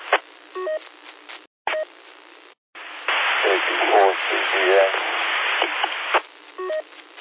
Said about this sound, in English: Scan for RJN. Audio is readable, but there's a lot of static in the background.